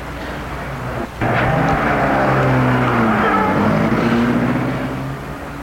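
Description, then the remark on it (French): A car engine rumbles loudly and steadily, its pitch rising and shifting as it pulls off after its passengers get out, then fading slightly toward the end as the vehicle drives away. No one speaks. “Ils sortent de voiture et la voiture s'éloigne.”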